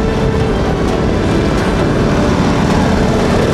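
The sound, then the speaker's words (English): A loud, steady roar of a firefighting plane passing overhead while dropping its water load onto a fire, showering foil blankets below and extinguishing the fire, a dense rushing wash of sound that stays constant throughout with no voices. “The plane drops water, showering the foil blankets, extinguishing the fire.”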